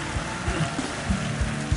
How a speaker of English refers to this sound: Now, give him a clap, thunderous clap. Thunderous clap.